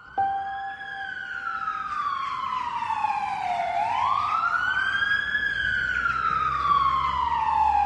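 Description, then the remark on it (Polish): An ambulance siren wails loud as the ambulance arrives to take a patient who tested positive to hospital, its tone sliding slowly down and then sweeping back up, with a low traffic rumble underneath and no one talking. “A następnie przyjechała karetka pogotowia i no, pojechałem.”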